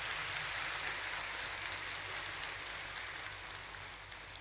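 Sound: loud applause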